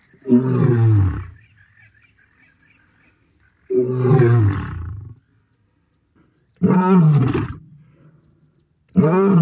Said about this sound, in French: Alors là, c'est un son puissant. Oui, oui. C'est un lion. Exactement. Alors, il rugit, mais on a l'impression qu'il y a une sorte de démarrage au rugissement, là. Alors, c'était un très vieux pépère.